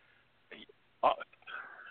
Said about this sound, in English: Oh, there we go. Bless you.